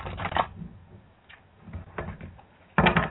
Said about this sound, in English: Is somebody moving like their speaker around or their microphone? No, I'm actually shuffling cards, so. That's one thing you have to deal with, guys.